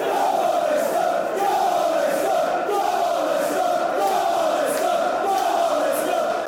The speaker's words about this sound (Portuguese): Eram os adeptos do Leicester a celebrar as suas vitórias